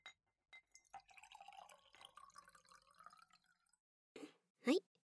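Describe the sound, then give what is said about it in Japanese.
Liquid glugs from a previous customer's leftover bottle into a glass in a shop for a few seconds, the pitch rising as the glass fills, followed by two short, bright clinks of glass in a toast. “最後のお客様のボトル、余っちゃった分、キープできないからみんなで飲んでって言われてましたし、もったいないから二人で開けちゃいましょうか。”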